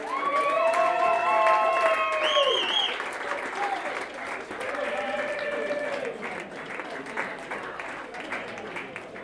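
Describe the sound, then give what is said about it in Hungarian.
Steady audience applause for band members being introduced at a concert fills the whole stretch, loudest in the first few seconds, with whoops and high cheering voices rising over the dense clapping before it settles into a slightly softer, even patter. “Nagy tapsot!”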